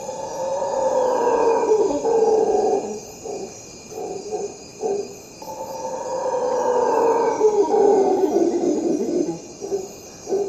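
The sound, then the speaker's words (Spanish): Howler monkeys roar in the distance at a nature reserve on the banks of the tropical Magdalena River in Colombia, in two long, rumbling waves of deep, droning calls that swell and fade, while insects hum steadily in the background. “A lo lejos, se oye el rugido de los monos aulladores.”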